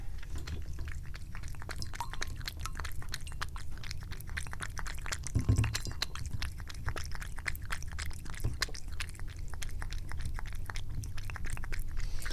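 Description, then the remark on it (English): A cat laps water from a bowl in a bathroom steadily for the whole stretch, a quick, soft run of wet clicks and slurps with a faint low rumble underneath and one brief louder bump midway. “The cat is drinking. Let's have some audio from the kitty drinking.”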